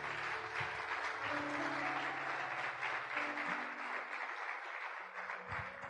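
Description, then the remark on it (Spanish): An audience applauds the Lord steadily for several seconds, a dense wash of clapping with low sustained tones, likely an organ or keyboard, humming underneath. “Dele aplauso al Señor.”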